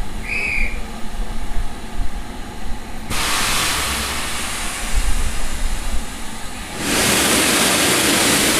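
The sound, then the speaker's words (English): A steam train rumbles along the line from Grosmont to Levisham: a brief whistle sounds early, then loud bursts of hissing steam surge over the steady low chugging, with no one speaking. “We've just enjoyed an absolutely stunning train journey from Grosmont down here to Levisham, which, if you've never been, is quite literally in the middle of nowhere.”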